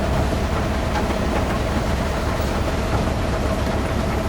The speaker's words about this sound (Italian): Nell'ambito della Slow TV, la SBS presenta questo documentario praticamente in tempo reale che segue il percorso del GAN, il treno che percorre alcune delle parti più remote d'Australia.